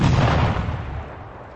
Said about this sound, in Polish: Fala podmuchowa bliskiej eksplozji wstrząsnęła placówką prom. To niemieccy saperzy, którzy skrycie podeszli do bramy, wysadzili ją oraz część muru, tworząc wielką wyrwę otwierającą drogę przed atakującymi.